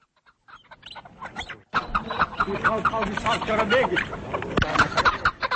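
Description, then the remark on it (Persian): A busy mix of bird calls at a bird market in the capital of Tajikistan, with clucking and chirping layered densely over one another, while human voices murmur underneath in a crowded, lively setting. “قبل از نوشتن گزارش خود راجع به تدابیر دولت در راه حفظ پرنده ها در تاجیکستان از بازار پرنده های پایتخت دیدن کرد و حالا قصه پرنده ها را میشنویم.”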